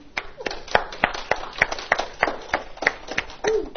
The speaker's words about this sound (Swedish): Då tycker jag som så här att, är inte Jesus värd en applåd därför att han gav sitt liv för oss på korset? Jo, men jag tycker Jesus är värd en applåd.